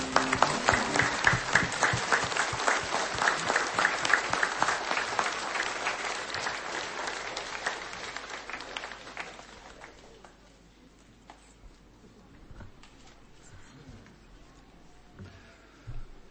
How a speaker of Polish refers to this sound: Wielki jest Pan Bóg. Wielkie oklaski dla Pana Jezusa.